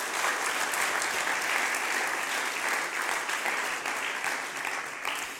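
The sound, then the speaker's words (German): A crowd claps steadily, a dense, continuous wash of applause that holds at full strength before easing slightly toward the end, with no voices rising above it, applauding a woman speaker as she is thanked. “Gib dir nochmal einen Applaus.”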